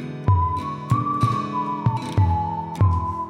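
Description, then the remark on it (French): A person whistles one long, nearly steady note that wavers slightly in pitch, while muffled low heartbeat thumps beat underneath in a regular pulse. “Siffle si tu veux.”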